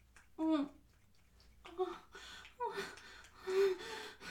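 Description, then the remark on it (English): A series of breathy, voiced gasps, four or so in uneven rhythm, some drawn out into short moaning tones, rising and falling in loudness with soft breathing between them. “Oh, you want to hear me gasp and moan?”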